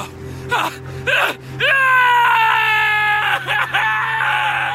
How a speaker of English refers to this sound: His face pale. He began to tremble. Then he began to scream.